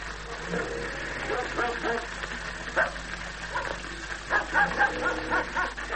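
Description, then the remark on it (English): A dog barks in a series of short, sharp bursts, a few clustered close together, over a steady low rumble like a running vehicle engine. “The dog.”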